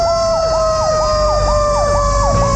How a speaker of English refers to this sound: And I pulled over as a whole bunch of, like, rescue vehicles roared by me.